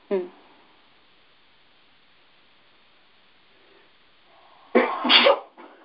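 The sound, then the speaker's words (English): A single sharp sneeze bursts out after several seconds of near silence, with a brief voiced sound at the very start. “Bless you.”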